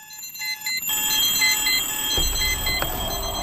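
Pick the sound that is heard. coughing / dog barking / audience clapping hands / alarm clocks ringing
alarm clocks ringing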